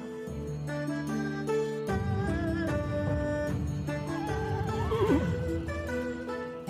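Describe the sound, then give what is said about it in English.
A single horse whinny rises and wavers near the end, set against a steady, sustained musical backdrop, with no talking. The horse is being ridden on the road by Pao Kong, who leads a little family convoy with a carriole. “Pao Kong leads the little convoy, riding his horse and smiling from ear to ear.”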